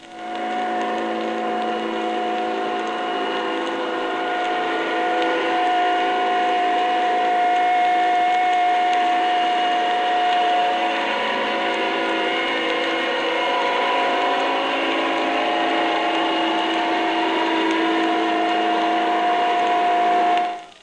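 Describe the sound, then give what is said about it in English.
A German electric torpedo, heard as a steady, high-pitched whine with a rapid, ratchet-like staccato beat from its propellers, running unbroken and fairly loud for about twenty seconds with no voices. “First, a German electric torpedo. It has a whining sound with a rapid staccato beat from its propellers.”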